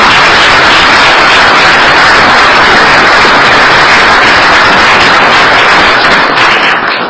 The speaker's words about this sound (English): So let's please give all of them a big round of applause.